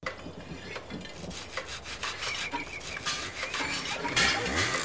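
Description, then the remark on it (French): Busy woodworking noise of sawing and hammering: scraping, rasping strokes of sawing and rubbing on wood, broken by sharp, irregular hammer blows, steady throughout with no voices. “Le marteau, c'est pour les clous, pas pour les doigts.”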